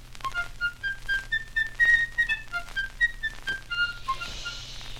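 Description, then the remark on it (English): A bright tin whistle plays a short, lilting tune of quick stepping notes, clear, over a faint steady low hum with no voices. “So I took my little tin whistle and I started to play a tune for them, like this.”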